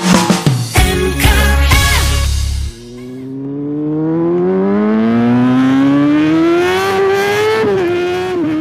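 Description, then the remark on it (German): A motorcycle engine roars loudly through rapid gear changes, then drops and climbs again in a long, steady rising whine as it accelerates away, with no talking. “Dieses Geräusch, das hört man jetzt immer öfters. Denn ja, bei dem schönen Wetter beginnt so langsam wieder die Motorradsaison.”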